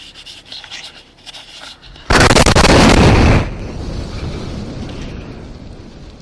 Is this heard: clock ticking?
no